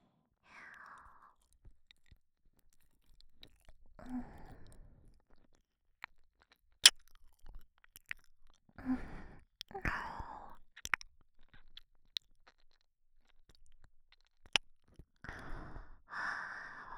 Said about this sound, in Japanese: お耳を舐められたり、 私もいただきます。